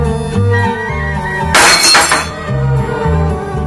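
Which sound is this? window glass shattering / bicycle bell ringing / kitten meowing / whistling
window glass shattering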